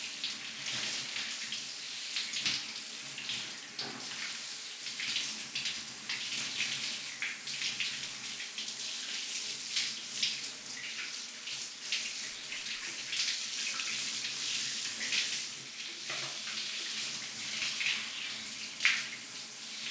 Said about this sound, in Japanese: じゃあ、シャワーで泡を流してっと。